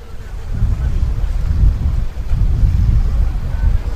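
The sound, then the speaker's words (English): A green wooden fishing boat carrying fishermen back from the deep sea approaches the ocean shore: a steady, loud low rumble with wind buffeting the microphone and surf washing underneath, continuous throughout with no voices. “our conversation is interrupted by a green wooden fishing boat with fishermen from the deep sea approaching the shore, where women, men and children with baskets eagerly wait to buy fresh fish.”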